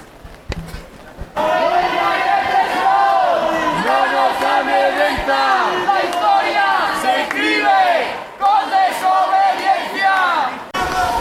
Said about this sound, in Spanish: Pues echa a andar la manifestación, como podéis oír por los gritos del fondo. Y bueno, ahora mismo aquí con los palcos de la Semana Santa, pero por lo menos estamos llenando la calle Ángel Ganivet y avanzamos.